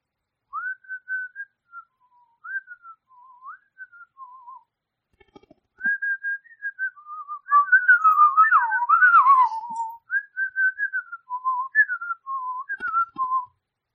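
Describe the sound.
A person whistles a lively rock song melody, with quick pitch slides and phrases broken by short pauses, growing louder and more animated in the middle before settling back into the tune.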